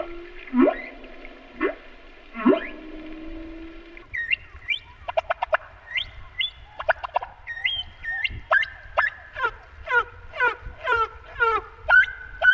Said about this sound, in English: If you speed up a humpback whale song, it sounds a lot like a kind of rhythmic bird song, like a mockingbird or a nightingale. You know, it's not the same structure, but you hear a lot of the similar kinds of elements put together.